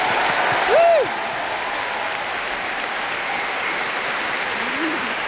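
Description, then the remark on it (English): An audience at a Doctor Who music concert applauds the orchestra that plays on the Doctor Who series soundtrack, steadily and densely throughout, the clapping holding an even level, with a brief rising-and-falling whistle near the start and a faint vocal cheer toward the end. “We like to refer to them as our house band because this is the actual orchestra that plays on the soundtrack to the Doctor Who series, and that must be worth a special round of applause, don't you think?”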